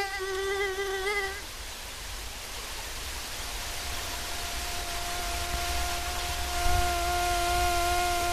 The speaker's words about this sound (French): Voilà, donc vous avez certainement déjà entendu ce type de son agaçant. C'est ce qu'on connaît du moustique.